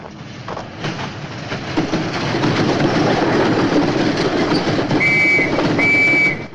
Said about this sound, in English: Rave waves his arm and they stop and crouch low as a train approaches.